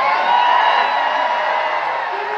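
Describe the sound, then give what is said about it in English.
A Pride event crowd in New York City cheers and whoops in a steady, dense roar with high whistling shouts on top, holding loud for a couple of seconds before easing slightly at the end. “It's a very weak crowd.”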